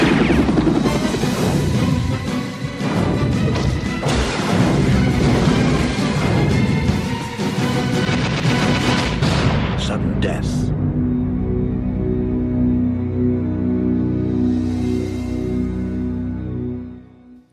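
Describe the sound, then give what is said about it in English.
Loud, chaotic action-movie mayhem from a trailer for a Jean-Claude Van Damme film with Powers Boothe: rapid booming explosions and sharp bursts of gunfire pile up for about ten seconds, then give way to a sustained, swelling musical score. “Got explosions.”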